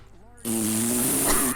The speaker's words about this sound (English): Everybody. The potency of it. The potency of my fart. Get the away! Potency. Oh, the potency of my farts.